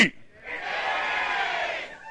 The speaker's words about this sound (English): Rugby! This side's the only side that got it. One more time I'll do it. Rugby! There's a war cry in this room.